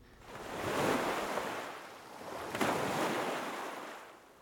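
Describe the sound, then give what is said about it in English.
Ocean waves wash onto a beach in two slow, broad swells of rushing surf, each building and fading in a hiss of foam, steady with no voices. “Waves like those that wash onto the beaches at Idra.”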